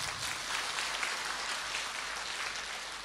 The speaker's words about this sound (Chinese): 鼓掌